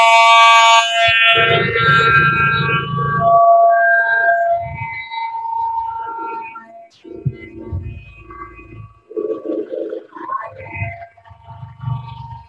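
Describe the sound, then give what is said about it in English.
A cordless water flosser toothbrush running with the brush and floss modes on at the same time: a loud, steady electric buzz with a strong pitched hum that shifts tone midway, followed by choppier, sputtering bursts of motor noise. “Now, if I want to floss while I'm brushing, I would press the second button, the one underneath the toothbrush button.”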